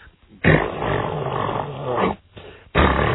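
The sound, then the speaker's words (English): A voice mimics a neighbour's running generator six houses away, heard from inside a house with all the doors shut during a power outage: a steady, rough rumbling drone, held for a long stretch, briefly broken off, then resumed in a shorter burst. “was this guy's goddamn generator”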